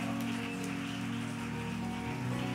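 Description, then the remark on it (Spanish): A church audience claps for God in a dense, continuous wash of applause, with sustained low keyboard tones holding underneath and no voices heard. “Vamos a levantar otro aplauso a Él.”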